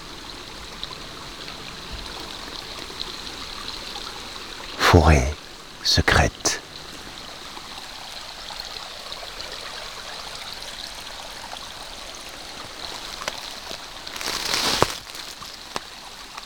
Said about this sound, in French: Clapotis de l'eau qui s'écoule lentement.